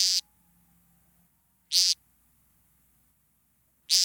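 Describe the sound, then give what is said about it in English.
Three loud, buzzy, nasal peent calls from a male woodcock's ground-based vocal display, given at night at the start of its display, each short and harsh, spaced about two seconds apart with quiet between them. “Each show, which may be performed dozens of times per night, starts with a ground-based vocal display, commonly known as painting.”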